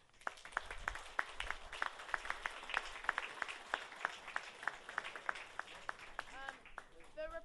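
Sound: audience applause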